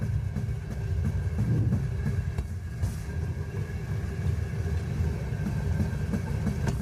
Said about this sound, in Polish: Myślę, że każdy z nas ma bardzo duży sentyment do kolei, do tego stukotu kół.